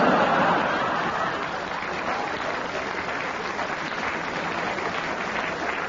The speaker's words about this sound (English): Do you realize how cruel that applause was?